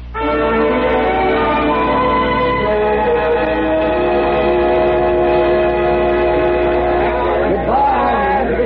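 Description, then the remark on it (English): A steam train's whistle blows loud in one long, steady, multi-toned scream that holds for several seconds, with a faint rumble and huffing of the smoking train and bustle of people underneath. “All that black smoke and huffing, and the way the whistle screamed.”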